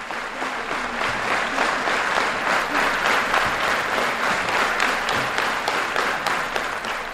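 crowd, concert audience applause

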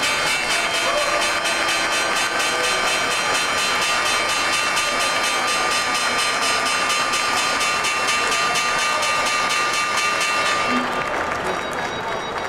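signal or alarm, loud bell ringing

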